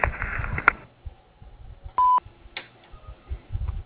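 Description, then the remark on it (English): A single short, steady electronic answering machine beep rings out clearly after a voicemail greeting asking callers to leave a message, surrounded by faint telephone-line noise and muffled background sounds with no one speaking. “Please leave your name, telephone number, and a brief message after the beep, and we'll promptly return your call.”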